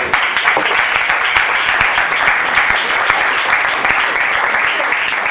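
A crowd applauds steadily for several seconds, a dense, even wash of many hands clapping with sharper individual claps popping out now and then, loud and unbroken throughout.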